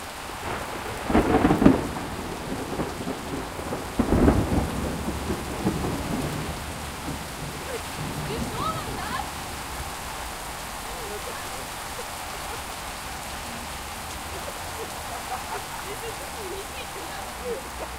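Steady rain hisses throughout a thunderstorm, broken early on by two loud, rumbling thunderclaps a few seconds apart before the downpour settles into a constant wash.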